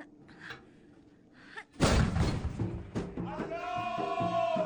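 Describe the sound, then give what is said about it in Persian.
A woman drops a shell into a mortar tube and fires it: a single sharp, loud launch booms out after a quieter stretch, leaving a rumbling wash of noise, with raised voices and shouting following in the background. “خب حالا شلیک کنین، انشالله که انتقام پدرتون و شهدا رو از بعضی ها میگیرین.”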